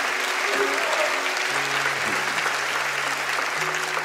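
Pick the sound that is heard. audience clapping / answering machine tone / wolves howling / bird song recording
audience clapping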